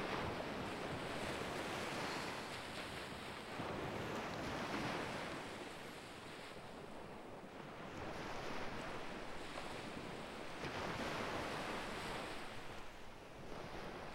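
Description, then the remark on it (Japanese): Continuous surf with waves breaking and washing in broad, rolling surges every few seconds, steady, with a breezy hiss over it and no voices. “こうしてると本当に海にいるみたい。”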